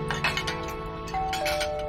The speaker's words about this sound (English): Kevin clears the dishes at home.